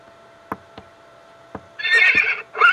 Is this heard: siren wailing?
no